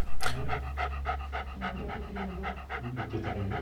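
A dog pants rapidly and steadily, a quick rhythmic series of breathy huffs continuing throughout, with no talking.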